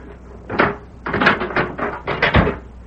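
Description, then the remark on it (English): A jail cell door is unlocked and swung open by a sheriff one evening: a single clank, a pause, then a quick run of rattling metallic clunks ending in a heavier thud. No voices. “That evening, Sheriff Matt Gorman went to Deke Bauer's cell and unlocked the door.”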